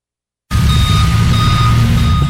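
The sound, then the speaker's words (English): A tow truck's reversing alarm beeps in a steady repeating pattern over the loud rumble of its idling diesel engine, starting abruptly after a brief silence, as tow trucks tow cars without proper hang tags out of a campus parking lot. “At least three tow trucks from Falzone Towing Company came and towed cars without proper hang tags out of the McGowan parking”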